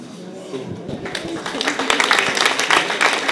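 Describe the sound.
Audience applause at the announcement of a new name swells after a brief murmur of voices, becoming a dense, steady crackle of many hands clapping that grows louder and stays busy to the end.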